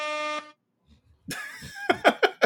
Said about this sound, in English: What was that? It was the air horn, but my mixer was low, so it was supposed to be.